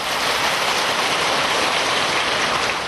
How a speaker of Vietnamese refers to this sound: Xin đại chúng chúng ta cho một tràng pháo tay.